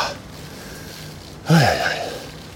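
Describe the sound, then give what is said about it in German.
A single heavy, snorting breath bursts out after a stretch of steady background hiss, loud at first and then trailing off over about a second, as a person starts panting while heading toward a construction site at a bridge over the Rhine. “Ja, jetzt fängt die Schnauferei an.”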